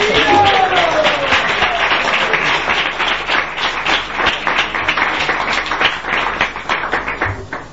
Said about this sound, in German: So, jetzt möchte ich bitten, mit rauschendem Applaus unser Gast aus der Schweiz zu empfangen.